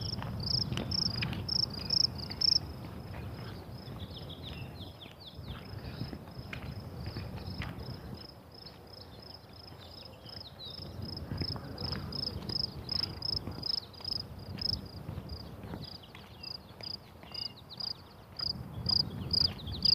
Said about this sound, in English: Cricket chirping.